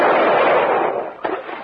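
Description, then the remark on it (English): A rifle shot's loud, rushing blast fades away over about a second, then one more sharp crack snaps out before the noise settles; the bullet goes through the rubber hull of a boat. No voices are heard. “Your bullet went clean through it.”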